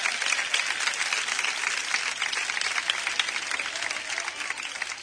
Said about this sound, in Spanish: Un espontáneo, efectivamente. Un aplauso al espontáneo, sí, señor.